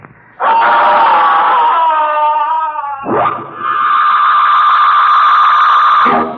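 Music stops, then a boy lets out two long, loud, piercing screams in quick succession. The first wavers and the second holds a steady, shrill pitch before cutting off abruptly, with no talking.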